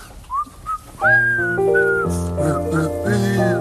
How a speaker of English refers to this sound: We could whistle. Yes, I guess we could. Do you know how? Oh, sure. I can do lots of mouth noises.